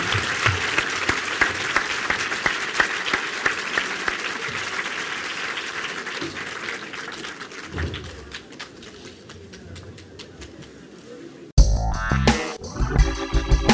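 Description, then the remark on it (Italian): An audience claps steadily and warmly for about eleven seconds at the end of a talk, the applause thinning slightly before it is abruptly cut off by a short burst of music. “Vabbè, un grandissimo applauso, grazie.”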